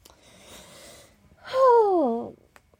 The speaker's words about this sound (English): Oh, that yawn actually hurt. I don't think my toes are meant to bend that way.